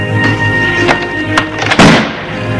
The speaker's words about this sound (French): Mais trop tard, la porte de l'appartement a claqué.